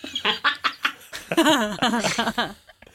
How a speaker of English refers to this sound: Moot and Bonbera, you hear what sounds like echoing quacks coming up.